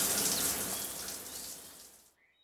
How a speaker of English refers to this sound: Every evening, he has a shower.